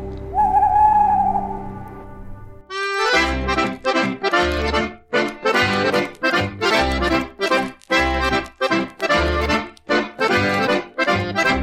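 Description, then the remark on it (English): A lone owl hoot rings out over a low hum, then a bright, punchy musical sting kicks in with steady thumping beats for several seconds, an ident for the Great Big Owl network. No one speaks. “The following podcast is a member of the Great Big Owl family.”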